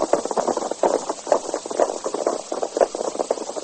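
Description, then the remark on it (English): Hooves of Jim Kelly's saddle horse clip-clop in a quick, steady rhythm, with a dense run of sharp knocks and no voices. “Looks like that Master Jim Kelly's saddle horse.”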